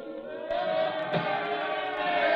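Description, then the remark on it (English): A dense wash of many voices shouting together in the street about Lenin, a steady roaring crowd noise with no single words standing out, growing slightly louder after the first half second. “The crowd, they're yelling something.”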